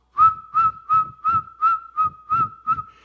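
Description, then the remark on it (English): Shrill eagle bone whistles blown by men at a ceremony sound in a steady, rapid pulse, about eight sharp bursts over three seconds, each piercing tone riding above the low thumping beat of a big drum, loud. “Those women on that side, the men on this side with their eagle whistles.”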